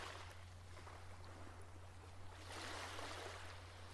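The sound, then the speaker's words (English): Soft waves wash and lap gently and continuously against the shore, swelling slightly partway through, with a steady low hum underneath and no voices. “The waves very gently coming home to the shore.”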